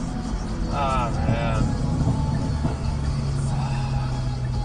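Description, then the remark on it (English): A 2-liter four-cylinder car's exhaust rumbles steadily with a low, throaty drone, faint irregular pops mixed in. A short voiced sound rises over the engine about a second in. “Oh yeah, you hear it like pop, pop, pop.”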